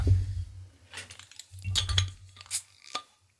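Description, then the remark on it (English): A second bottle of flat, mellow apple cider being opened: several sharp glassy clinks and clicks spread across a few seconds over a low steady hum, with no hiss of fizz and no talking. “And on that note, I'm going to open my second bottle.”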